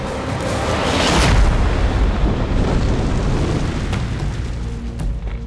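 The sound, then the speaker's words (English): A huge, deep boom hits near the start as the giant Cabra Khan topples forward and hits the ground, crushing a fire and shaking the earth, followed by a long rumbling crash and debris-like crackle that slowly fades across several seconds. “Cabra Khan hit the ground with a massive booming thud, crushing the fire and just barely missing Hunapu and Shibalanke.”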